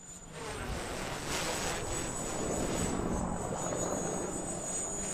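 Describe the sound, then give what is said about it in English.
A small quadcopter drone, flown by a young Marine for the first time on an unusually windy day, flies with a steady, high-pitched motor whine over a constant roar of rotor noise and gusting wind, continuous for the whole stretch with no voices. “the next young Marine to try the drone, he's never flown one, and it's unusually windy.”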